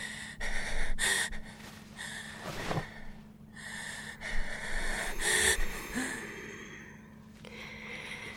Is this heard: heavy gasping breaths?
yes